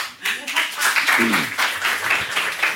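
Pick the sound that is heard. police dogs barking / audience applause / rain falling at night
audience applause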